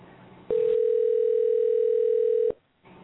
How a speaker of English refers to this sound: Hey, it's ringing.